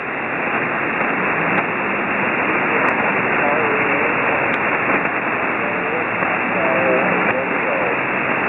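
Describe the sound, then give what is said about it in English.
Steady, hissing radio static fills the whole stretch, with a weak, garbled ham radio operator's voice giving a call sign barely breaking through now and then. “Man, it is hard to pull you out.”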